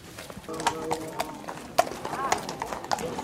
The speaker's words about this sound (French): Alors là, on est au milieu des chevaux et des veneurs qui sont en train de se préparer pour chasser à court.